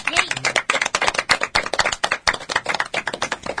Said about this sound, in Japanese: 拍手、イエイ。